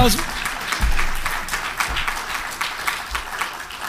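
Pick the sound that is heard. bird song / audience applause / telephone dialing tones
audience applause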